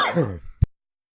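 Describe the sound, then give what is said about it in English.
A breathy, sighing vocal sound is cut off by a single short, sharp cough, followed by silence. “Coughed and you're muted.”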